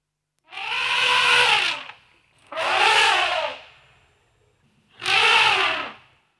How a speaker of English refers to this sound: An elephant.